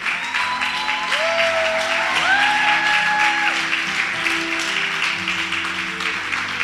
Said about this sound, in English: Come on, clap your hands until they get here.